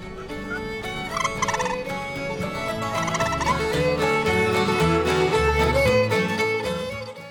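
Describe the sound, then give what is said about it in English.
A turkey purr call, used for calling a turkey in, rolls on steadily for several seconds, a soft fluttering trill with rich tonal layers, fairly loud, with no one talking over it. “My favorite for calling a turkey in is the purr.”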